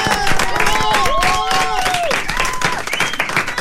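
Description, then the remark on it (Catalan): A small group applauds themselves, clapping steadily for a few seconds, a dense, even patter of hands, while voices whoop and call out over the applause. “Escolta, aplaudim-nos. Aplaudim-nos, va.”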